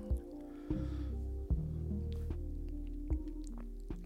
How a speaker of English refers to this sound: Excuse me while I take some drink of water.